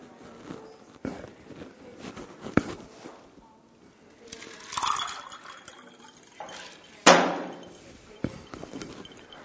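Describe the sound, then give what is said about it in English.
A door is pushed shut with a single solid thud partway through, preceded by quiet shuffling and soft bumps, with faint bird-like cooing in the background. “Go ahead, I'm going to shut this door.”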